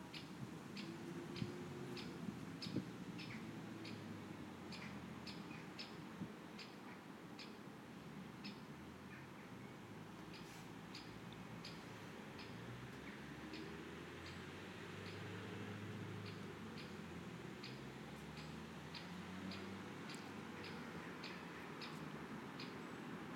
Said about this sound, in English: I wonder what those birds are. Are they? I don't think they're gulls. I don't know. Haven't heard any seagulls here. I think because we're a little bit inland.